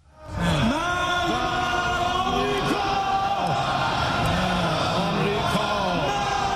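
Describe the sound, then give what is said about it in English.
A large group of Iranian lawmakers in Iran's parliament shouts "Death to America" in unison while burning a U.S. flag, voices overlapping in a loud, sustained roar of rhythmic chanting that continues without pause from start to finish. “Iranian lawmakers burned a U.S. flag at the nation's parliament, shouting, "Death to America."”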